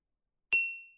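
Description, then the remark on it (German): A single bright clink of a cup, a sound sample previewed from a sample library, struck once with a sharp attack and a clear high-pitched ring that slowly fades out after silence. “Und ich gehe mal auf die Tasse.”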